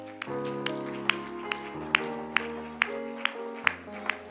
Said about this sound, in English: Just one more last time, let's clap our hands to the Lord.